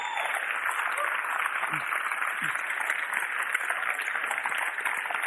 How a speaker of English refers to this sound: Well done. Brilliant. Why don't you give it a round of applause? Isn't that great?